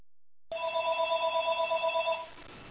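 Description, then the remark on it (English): A telephone rings once in a steady electronic trill lasting under two seconds, clear, then cuts off into quiet background noise. No one speaks. “I'm going to go on mute for a second here while this phone's ringing.”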